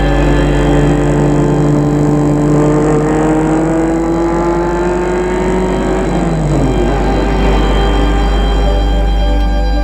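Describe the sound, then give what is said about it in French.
A car engine drones loudly and steadily throughout, its pitch sliding down partway through as a woman drives off in her car, with no voices present. “Elle dit au revoir au domestique, entre dans sa voiture et file.”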